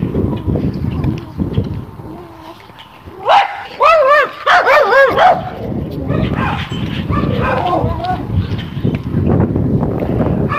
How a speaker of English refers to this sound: Dogs.